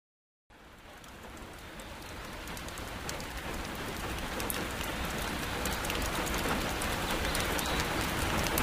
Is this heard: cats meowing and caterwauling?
no